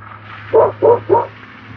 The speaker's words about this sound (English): A little doggy window. It's a little round porthole in the fence. That dog can stick his nose in and bark at me.